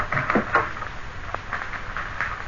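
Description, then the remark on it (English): A service door is pulled open with a few soft clunks and a brief rattle near the start, followed by a single sharper click, all moderately quiet against a faint hiss. “Just open the service door there.”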